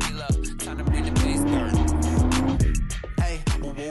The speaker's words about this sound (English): Various supercars are washed and driven along palm tree lined roads.